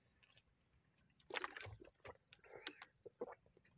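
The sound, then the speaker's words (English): Wet slurping and gulping from someone drinking water, a few irregular liquid swallows and sloshes over a few seconds, fairly quiet with no talking. “I'm sitting here trying to finish my water and digest some food here.”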